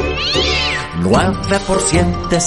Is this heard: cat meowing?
yes